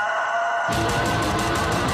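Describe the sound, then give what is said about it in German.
A rooster crows loudly, one long strained call that swells partway through and carries to the end, with no voices around it. “also könnte es jetzt einen Gockel geben.”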